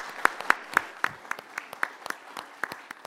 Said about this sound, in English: Wonderful. Can we have a round of applause for all the panel members?